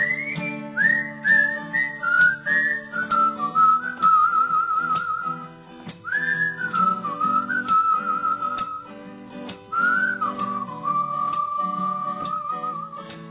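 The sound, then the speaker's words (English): A person whistles a bright, bouncy tune in three phrases, each gliding down and holding a long note, over a steady plucked backing with a light ticking beat. No one speaks. “Let's whistle about it.”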